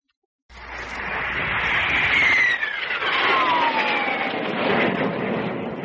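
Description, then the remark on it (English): A loud, steady roar from one of the new Air Force jets starts abruptly and holds for several seconds, with a high whine that slides downward in pitch as the aircraft passes overhead. No voices. “Hey, that's one of those new Air Force jets.”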